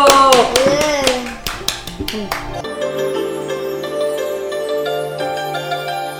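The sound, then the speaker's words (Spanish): Children clap in a quick, uneven burst of sharp claps for a couple of seconds while young voices call out, then the clapping stops and steady sustained tones carry on. “Bien, un aplauso. ¡Bravo!”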